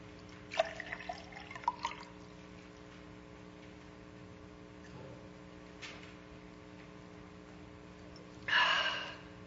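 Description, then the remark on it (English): Water is poured in a few splashy bursts with drips. After a quiet stretch comes a short sip and a breathy gasp at the end. No one speaks. “Water.”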